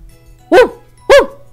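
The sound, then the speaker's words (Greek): Two loud dog barks from Rex, a dog in a story, ring out about half a second apart, each short and sharp, with near silence around them and no talking. “Τότε ο Ρέξ, ο σκύλος, είπε στον Ρος:”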